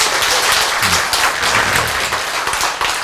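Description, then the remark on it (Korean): An audience claps steadily during a sermon, a dense, continuous patter of many hands with no pauses, fairly loud and even throughout, with a faint murmur of voices mixed in underneath. “자, 이렇게 이제 박수치는 동안에 네? 성령이 우리를 지배하고 있는 거예요.”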